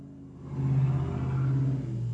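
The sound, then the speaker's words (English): A loud car rumbles past, its low engine hum swelling quickly after a quiet start and holding steady as it drives by, with no talking over it. “That was a loud car.”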